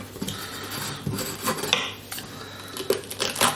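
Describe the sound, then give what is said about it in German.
A knife slices through a bell pepper on a cutting board, with a handful of crisp, irregular chops and scrapes, plus light kitchen clatter and a steady low hum underneath. No one speaks. “Na, jetzt habe ich zum Beispiel falsch geschnitten.”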